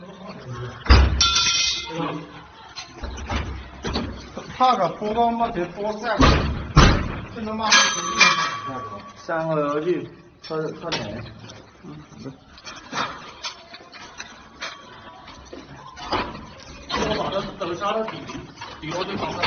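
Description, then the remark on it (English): A home's door is repeatedly yanked by someone trying to open it and bangs against metal bars welded over it, giving loud irregular clangs and thuds with a ringing metallic tone, while muffled voices murmur underneath. “And the second video shows somebody try to open the door and see, and you can see the metal bars welded into their home.”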